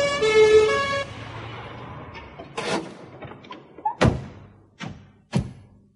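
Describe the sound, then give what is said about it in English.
An ambulance siren wails briefly in the distance at the start, then cuts off, followed by a series of heavy thuds and bangs, like doors slamming, spaced over the next few seconds. “A siren sounded in the distance.”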